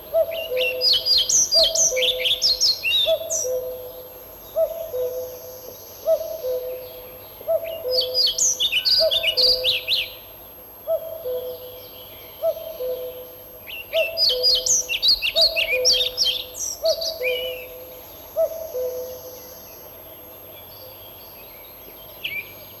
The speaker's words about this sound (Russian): На заросших лесных сечах можно услышать протяжный свист дроздов-белобровиков. После свистовой трели следует тихое, неразборчивое верещание.